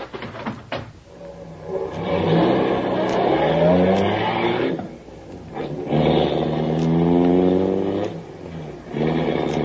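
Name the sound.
car engine accelerating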